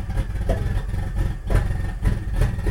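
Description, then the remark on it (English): A powerful project car engine, meant to make 400 to 500 horsepower but not yet tuned, idles with a deep, lumpy rumble, punctuated by several sharp revs that rise and fall in quick bursts, loud. “This is his project car, not his daily driver.”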